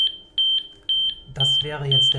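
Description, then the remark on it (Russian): A prototype patient-monitoring vest's preliminary alarm, demonstrated by one of its developers: a string of short, shrill electronic beeps at a steady pitch, repeating in quick pairs, then sounding on while a man starts talking over it. The vest signals when breathing rate and pulse readings suddenly deviate sharply from normal. “Вот так звучит предварительный сигнал тревоги.”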